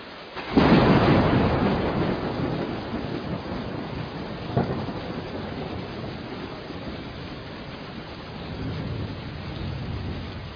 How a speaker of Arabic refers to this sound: ففي هذه الأيام من الله على المسلمين، على عباده عموما وعلى مخلوقاته التي تحتاج إلى المطر، فأنزل هذا المطر وعممه عليكم، فاشكروا الله واحمدوه على هذه النعمة.